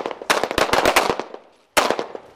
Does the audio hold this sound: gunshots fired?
yes